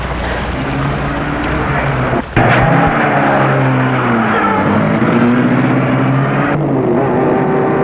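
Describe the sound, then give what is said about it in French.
A car engine hums steadily, then a sharp thump is followed by the motor revving up and droning on as the vehicle pulls away, as a woman opens the car door, gets in and starts the car. No one speaks. “Elle ouvre la portière, elle fait entrer, entre et met la voiture en route.”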